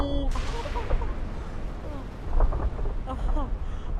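A loud, sustained rumbling roar of a building collapsing after four explosions, with heavy low crashing and debris noise that persists throughout, while voices are faintly heard underneath.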